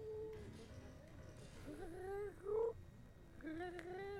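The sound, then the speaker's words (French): A mechanical toy bird chirps in several squeaky, warbling bursts, its mid-pitched tones sliding up and down over a low, steady rumble, with the loudest trill near the middle. “Bah c'est des bruits d'oiseaux, ça il parle pas là.”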